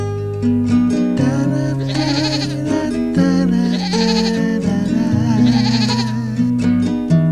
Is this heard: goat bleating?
yes